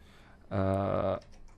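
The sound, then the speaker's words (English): A caller's telephone line connects to be put on the air: a single loud, buzzy line tone sounds for just over half a second, then cuts off, leaving faint line noise and a few soft clicks. “We've got a phone call. Let's put someone on the air.”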